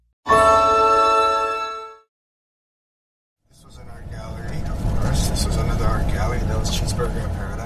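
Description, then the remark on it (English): A flatbed truck drives through a fire burn zone past piles of rubble, with a steady low engine rumble and road noise, heard from inside the cab after a brief tonal chime and a moment of silence. “I'm riding through the burn zone with Akolu Lindsay in his flatbed truck”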